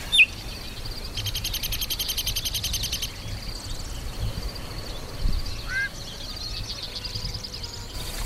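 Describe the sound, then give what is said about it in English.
Chat song in several parts: a harsh, buzzy screech lasting a couple of seconds, a short high whistle, then a quick twittering run, all over a steady low background hum. “Well, you may have heard three or four distinct different, there's a whistle, sort of a screech, then a twitter.”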